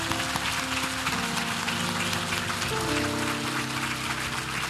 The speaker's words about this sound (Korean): 할렐루야. 우리 하나님께 감사의 박수를 드리겠습니다.